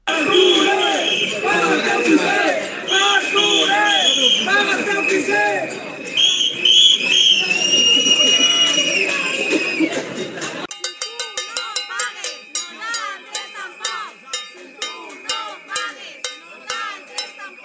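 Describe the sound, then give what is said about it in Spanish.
A loud protest march through town streets shouts and jeers outside the house of the mayor, Arturo Poquet, against a rise in the IBI property tax, while shrill whistles pierce through the din; partway in, the noise shifts to a rhythmic, pulsing chant with sharp clanking beats. “una marcha que cambió su recorrido habitual para pasar por delante de la casa del alcalde, el popular Arturo Poquet, y gritar a pleno pulmón su rechazo a una medida que consideran injusta.”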